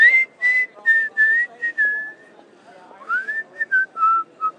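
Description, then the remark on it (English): A person whistles a wobbly, uneven tune badly in the middle of a street, the notes breathy and wavering in pitch, with short phrases broken by gaps and some faint background murmur underneath. “I'm going to win the prize for the worst whistling.”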